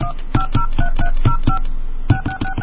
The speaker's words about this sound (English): Please enter your PIN now. To make a call, dial 1, area code and phone number now.